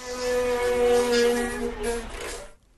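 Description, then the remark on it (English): An Aldi supermarket's doors let out a loud, wavering, buzzy groan like the growl of the Wookiee Chewbacca from Star Wars, holding one throaty pitch for about two and a half seconds before cutting off. “And it is doors at Aldi that have a special talent. These are the doors at Aldi.”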